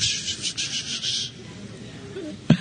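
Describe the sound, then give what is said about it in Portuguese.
Bible pages being turned: a crisp, hissing papery rustle in quick pulses for about a second, fading to a soft hush, then a brief sharp tap at the end. “Como eu gosto de ouvir esse barulho da página da Bíblia virando.”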